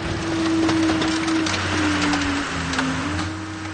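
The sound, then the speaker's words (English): A car crusher at work at Fox Auto Parts in Belleville, Michigan, crushing end-of-life cars: a steady, low mechanical hum under a dense wash of grinding noise, broken by scattered sharp cracks and crunches as metal and glass give way. “is operating a machine that crushes those cars.”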